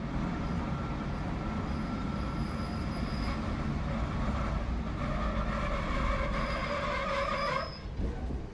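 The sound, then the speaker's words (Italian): A train rumbles steadily along the rails through the desert with a dense clatter, then a thin metallic brake squeal rises before the noise eases as it slows to a halt at Cook, the only stop on the Nullarbor, 2,436 km from Sydney. “Il treno si ferma.”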